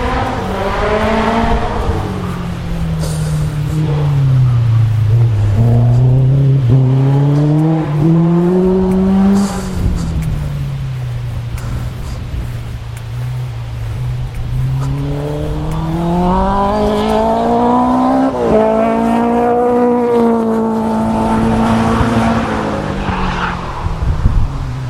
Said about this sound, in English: Chapping a kit car going around the track.